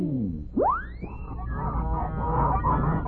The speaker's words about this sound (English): Well, since our story is the Goose Girl, how about a flock of giant wild geese flying north?